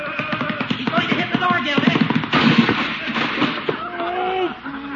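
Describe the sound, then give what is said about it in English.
A goat rams a wooden door, with loud repeated thuds and a sharp splintering crack as the door splits right down the middle, while voices and laughter carry on throughout. “Split the door right down the middle. That goat's gotta go.”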